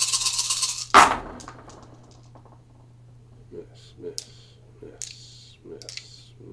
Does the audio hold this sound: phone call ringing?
no